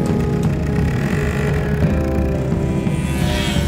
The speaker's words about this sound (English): Or maybe you're not into comfort and would rather feel the rattle of a motorcycle between your legs. Hey Troy, is it supposed to be that smoky?